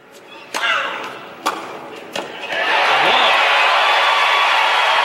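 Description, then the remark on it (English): Three crisp racket-on-ball strikes ring out in a quick tennis rally, ending on Lindsay Davenport's backhand winner down the line at set point, and a loud crowd roar and cheering for Davenport erupts right after and holds steady to the end. “Now, as the set continues neck and neck, here's that first clip you heard, when Davenport hits a backhand winner down the line.”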